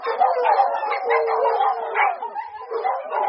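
Several dogs bark, yip and howl at once in a continuous, overlapping chorus, loud, with no pauses, as they ride a puppy bus in Skagway, Alaska, run by the dog walking and training service Mo Mountain Mutts, taking them to off-leash walks, hikes and swims.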